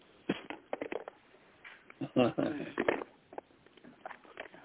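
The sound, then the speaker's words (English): Paper rustles and crinkles in irregular, uneven bursts as a speaker looks for a graduation paper, with a brief murmur of voice mixed in partway through, then softer scattered handling sounds. “And I'm saying that to say, hold on, I got the paper right here, hold on.”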